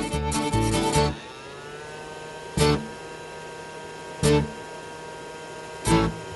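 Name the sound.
vacuum cleaner running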